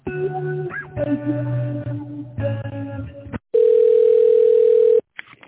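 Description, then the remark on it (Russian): While a phone call is being transferred to a director, a few seconds of tinny, tonal hold-style music give way to a single loud, steady telephone ringing tone lasting about a second and a half, followed by brief faint clicks. “Я сейчас вас переключу на директор России.”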